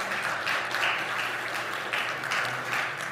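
A crowd in a church applauds steadily for the people who decorated the sanctuary, a dense, even patter of many hands clapping, sustained without a break and with no voices on top.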